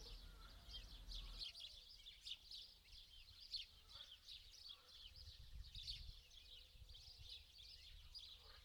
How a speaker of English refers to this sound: All of your attention is focused on the sounds around you and the sounds of the bird song.